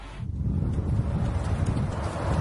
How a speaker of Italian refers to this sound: Tira un vento forte, continuo, a Wichita.